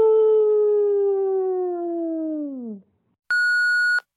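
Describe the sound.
A caller on a phone call imitates a wolf howl with one long, loud, tonal wail that slowly slides downward and drops off at the end, followed by a short, steady high-pitched beep.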